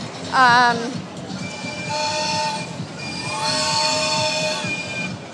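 vehicle, train whistle blowing

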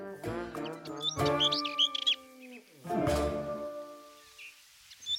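bird, yellowhammer singing

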